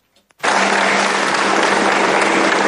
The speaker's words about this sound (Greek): Τι χειροκροτούν